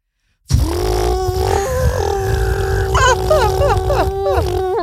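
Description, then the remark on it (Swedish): A person imitates a domestic propeller plane from Luleå to Haparanda with a steady, buzzing, droning hum from the throat, holding one low pitch, then adding wavering, warbling rises near the end before cutting off. “Då vill jag att du ger mig ditt bästa flygplansljud.”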